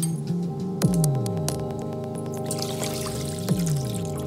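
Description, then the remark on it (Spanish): Liquid gelatin is poured steadily into a bowl, mixing two different colors of gelatin at the same temperature. A continuous splashing stream whose resonant tone keeps rising and resetting as the vessel fills. No one speaks. “Para confirmar que es una magnitud intensiva, solo nos queda mezclar los dos contenidos en un bol.”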